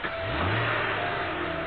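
A car engine revs hard and accelerates away, a loud, steady roar with rising pitch that stays dense for the whole moment, with no voices over it.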